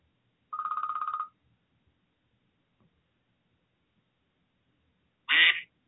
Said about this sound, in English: My phone is blowing up, so you just...